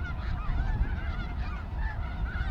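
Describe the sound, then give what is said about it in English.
A dense chorus of thousands of snow geese honking continuously as they land in late autumn, many overlapping calls from a large flock over a low rumbling background, steady and loud throughout. “In late autumn, on the cusp of cool winter days, snow comes early when thousands of aloft avian's snow geese land here in a flurry of white feathers.”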